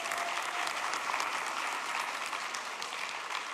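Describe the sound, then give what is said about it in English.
Steady applause from an audience honouring a man for his service fills the whole stretch, a dense, even patter of many hands clapping at once, fairly loud and continuous with no voices standing out. “Shall we just applaud him?”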